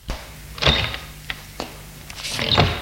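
A kitchen door being opened: a series of sharp clicks and dull thunks from the latch and handle, with a longer rattling clunk near the start and another near the end, and no voices.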